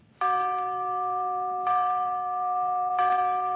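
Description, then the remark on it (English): Three clear bell strikes sound at steady intervals, each one ringing out with a sustained, resonant tone that overlaps the next, fairly loud, with no voices, marking a three-bell rating for the film Kind Lady as the best picture of the week. “A three-bell picture starring Ethel Barrymore and Maurice Evans.”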